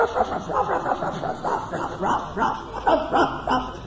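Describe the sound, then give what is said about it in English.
A small dog yaps in quick, repeated bursts, steady, each bark sharp and high-pitched over a faint background hiss. “There was a little dog this big, just barking.”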